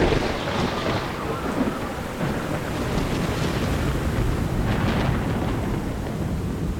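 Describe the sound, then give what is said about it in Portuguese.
Heavy rain pours down steadily in a dense, continuous roar, with deep rumbling thunder rolling underneath throughout. No voices, just the storm filling the space evenly from start to finish. “Quando a bicharada estava toda embarcada e mais a família do Noé todinha, começou a cair uma chuvarada.”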